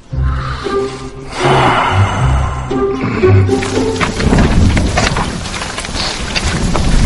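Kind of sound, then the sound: nature, rain falling with thunder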